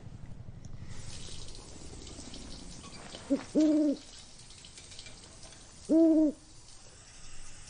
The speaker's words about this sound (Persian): اسمش چیه؟ کی؟ جغده. کی؟ اسمش کیه؟ خودت ازش بپرس.